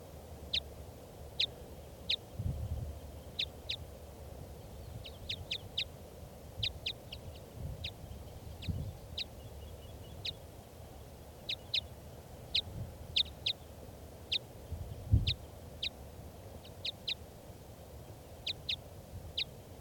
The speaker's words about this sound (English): They're recording. This is the wild bird.